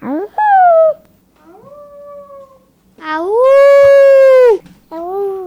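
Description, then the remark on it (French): A voice imitates a wolf howl in a string of rising, wavering cries. The early ones are short and softer, then comes a long, loud, sustained howl, and another starts at the end. “Quand il hurle, c'est le départ de la chasse.”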